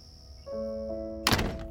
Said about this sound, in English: "What's your secret?" Vera whispered after Elsie shut and locked the door.